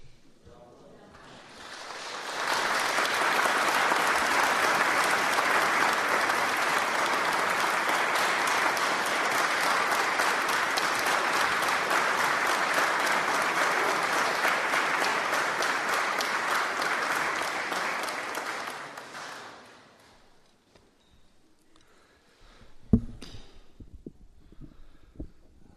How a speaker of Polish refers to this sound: Myślę, że te oklaski gromkie, jakie rozległy się przed momentem, świadczą najlepiej o tym, jaka jest wdzięczność pielgrzymów dla miejscowych duszpasterzy,